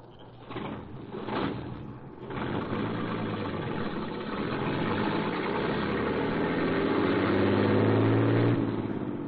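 A truck carrying a load of waste paper to the mill starts with a few rough turnovers, then settles into a steady, loud rumbling idle that gradually revs higher, with no voices.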